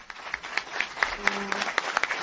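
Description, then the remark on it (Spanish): Sustained ovation from a crowd at the close of a gathering in Adolfo Suárez's hometown honouring his legacy, a dense, steady patter of many hands clapping at once, with scattered sharper claps and a brief low murmur of voices beneath it. “Como digo, en estos momentos está terminada esta concentración con una cerrada ovación que podemos escuchar.”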